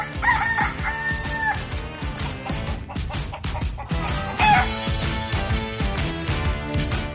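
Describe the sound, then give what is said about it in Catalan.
A rooster crows loudly near the start and again a few seconds later, each crow drawn out and shrill, set against a busy, rhythmic musical backing that plays throughout, introducing the segment L'hora del gall on IB3 Ràdio. “L'hora del gall.”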